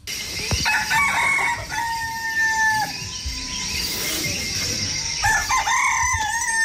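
A rooster crows twice in a Pygmy community in Cameroon, as it does every morning, each call a loud, drawn-out cock-a-doodle-doo with a strained, wavering top note, over a steady hiss of morning insects and birds. No one speaks.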